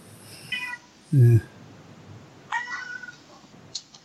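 A cat meows several times in short, separate bursts, one louder and lower than the rest, with a steady background hiss and no clear talking.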